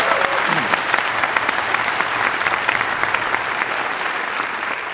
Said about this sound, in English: All right, round of applause for the students.